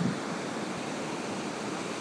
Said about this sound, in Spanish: ¡Oye! ¿Qué haces salpicando el agua?